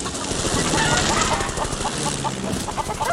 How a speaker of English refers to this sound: We rolled straight through the whole flock. And I've always enjoyed scattering chickens, you see.